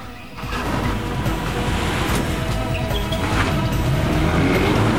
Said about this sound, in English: Racing along a road flanked on either side by high walls, Hamid's car skids 180 degrees and passes through an archway. A second later, Cohen's men block the archway with their vehicles.